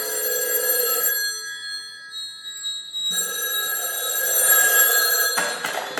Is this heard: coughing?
no